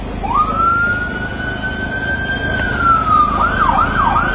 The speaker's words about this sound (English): Ambulances transporting the first rescued boys from the Thailand cave to a hospital.